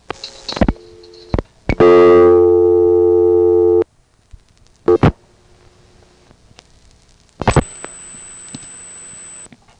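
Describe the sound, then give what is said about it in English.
The busy signal of the Broadway Timberville telephone exchange office: after a few sharp clicks, a loud, buzzy, harmonic-rich tone holds for about two seconds, then stops; more clicks follow, and a thin high whine rises over line noise. “In any case, here's the busy of the Broadway Timberville office.”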